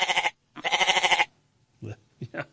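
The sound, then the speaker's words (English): A person imitates a goat with two loud, wavering bleats, followed by a few short, quieter vocal bursts after a brief pause. “Good goat sounds.”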